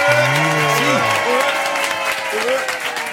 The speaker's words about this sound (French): Un tonnerre d'applaudissements et quelques beuglements pour les Bedins.